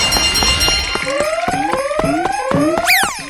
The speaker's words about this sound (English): The siren, of course, tells you that there's a new elf on the board.